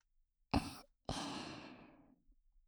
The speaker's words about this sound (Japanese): 私の吐息で一気に飛ばしていきますね。